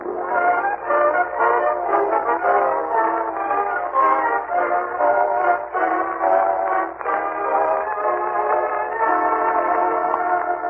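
A train at the Summerfield Railroad Station: a steady, dense wash of rumbling and whistle-like tones that stays loud and continuous for the whole stretch, with no voices.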